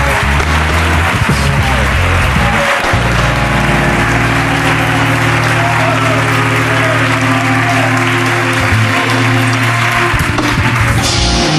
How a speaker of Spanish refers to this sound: Vale, pues un aplauso para Jorge Ponte, por favor.